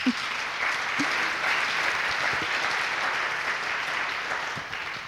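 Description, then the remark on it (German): An audience gives a friendly welcoming applause to a guest and his wife, clapping steadily for about five seconds in a dense, even wash of many hands with no voices standing out. “Wir können das doch mal zum Ausdruck bringen mit einem freundlichen Applaus.”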